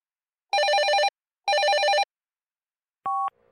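A telephone rings twice in quick succession with a bright, warbling electronic trill, followed after a short pause by a single short beep from an answering machine. No voices.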